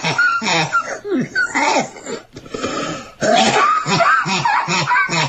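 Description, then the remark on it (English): A woman coughs in a run of harsh, repeated bursts, broken by strained, gasping breaths and a brief pause before more rough coughing. “This is her coughing. Listen to this.”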